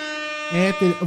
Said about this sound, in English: Holy shit. Anthony Davis is now a Laker official. Holy shit. Hit the air horn. Hit the air horn.